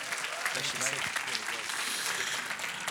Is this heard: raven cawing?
no